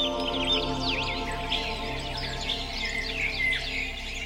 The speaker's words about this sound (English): And then, for those of us who birdwatch in Central Park, once we step into the park, you get dawn chorus, which is just all the birds singing at once.